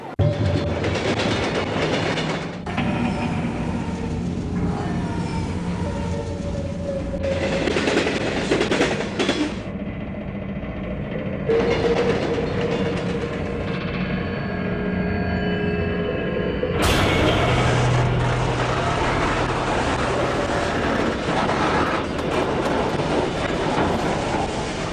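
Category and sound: vehicle, moving train interior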